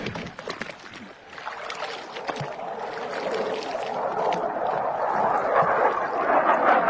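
A bloody piece of meat dipped into sea water to draw sharks, with continuous splashing and sloshing that swells steadily louder toward the end. No voices.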